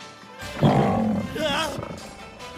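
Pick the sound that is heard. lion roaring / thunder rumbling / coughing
lion roaring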